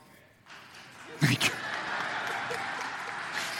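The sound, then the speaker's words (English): A few sharp hand claps from a single person ring out, close together, over a steady wash of crowd murmur. “You gonna clap now?”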